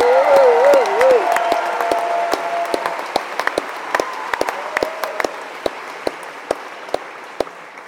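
A crowd applauds loudly for the band at a live music show, with dense clapping and some whoops and cheers over it, then the applause thins out into scattered, sharper individual claps as it fades.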